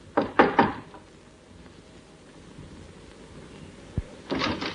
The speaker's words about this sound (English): The lock on the door fascinated him. The urge to try out the key in his pocket was almost overwhelming. But instead, he knocked.